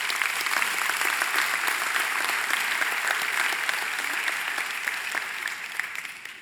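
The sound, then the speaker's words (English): An audience at Palm Valley Church claps steadily at the end of a reading, a dense wash of many hands that holds for several seconds, then gradually thins and tapers off toward the end, with no voices standing out. “I'm so thrilled that you clapped at the end of that.”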